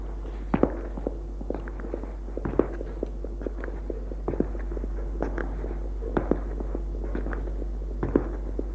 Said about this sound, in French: L'on entend des pas dans les escaliers.